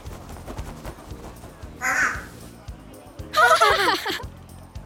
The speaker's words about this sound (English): Wow! A parrot! What's his name? Where's he from?